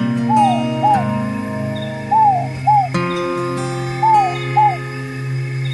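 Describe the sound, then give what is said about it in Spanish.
A bird sings in short paired phrases, each a rising-then-falling note, repeated three times at an even pace over a steady low hum in the background. “cada pájaro que canta.”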